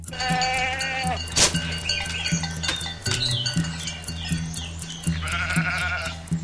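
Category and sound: animal, goats bleating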